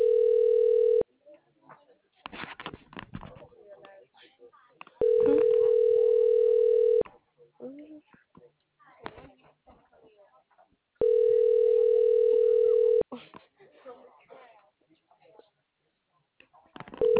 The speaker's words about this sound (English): This phone just a ringing in my ear.